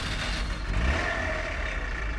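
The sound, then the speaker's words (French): A car engine revs up and pulls away as the dog Chien Pourri runs after his master's car, a steady loud rumble with a rising whine for a couple of seconds with no voices. “Chien Pourri court après la voiture de son maître.”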